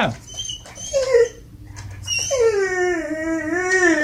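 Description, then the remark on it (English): A dog watching TV gives a few short whines after the TiVo or DVR is paused, then breaks into a long, wavering howl that holds a steady, slightly quivering pitch for about two seconds, loud and clear. “the dog loves watching MSNBC”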